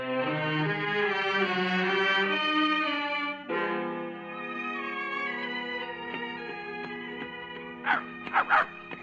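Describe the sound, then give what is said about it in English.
A dog named Jacob whines in long, wavering, high-pitched cries that break off briefly partway through, followed by a few short sharp yelps near the end, fairly loud with no talking. “Did you have to bring your dog along, too?”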